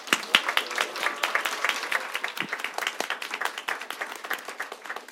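Audience applause welcoming a performer: a crowd claps steadily and densely for about five seconds, a continuous patter of many hands at moderate loudness with no talking over it.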